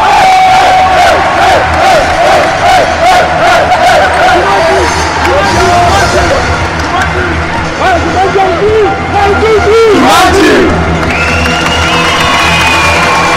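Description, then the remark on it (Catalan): A large crowd of basketball fans in the full Joan Busquets arena roars and cheers continuously during the players' on-court celebration, with shouts, whoops and overlapping chanting voices forming a loud, dense wall of celebration throughout. “Nosaltres hem envaït la pista, bueno, com estem una mica per casa, anem a escoltar la celebració del jugador.”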